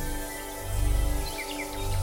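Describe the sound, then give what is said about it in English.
A few brief, high bird chirps come in quick succession partway through, fairly faint, set against a steady low droning background with no talking. “You hear the sound of very distinct bird song.”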